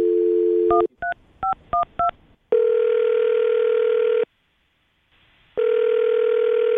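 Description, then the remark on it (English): A steady dial tone gives way to a quick series of five touch-tone beeps as a woman's phone number is dialed, then two long, even ringback tones with a pause between them, clear with no talking. “Well, I'm going to dial her phone number right now and see if we can figure out why she's not getting back to you, okay?”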